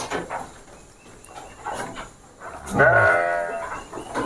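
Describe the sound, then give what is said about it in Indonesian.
A Dorper sheep that has just given birth lets out a loud, wavering bleat in a pen, with a few fainter bleats and pen noise scattered around it. “Nah ini yang baru beranak juga nih. Yang beranak ini domba Dorper nih.”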